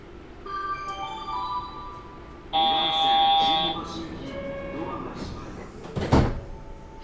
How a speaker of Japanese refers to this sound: 有明テニスの森です。右側のドアが開きます。ご注意ください。